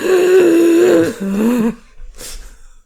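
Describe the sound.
A voice imitates a man's loud, drawn-out wheezing breaths: a long, strained, tonal inhale-like rasp for nearly two seconds, then a shorter breathy hiss after a brief pause.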